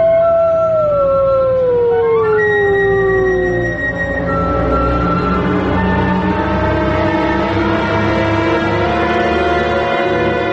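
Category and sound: animal, wolf pack howling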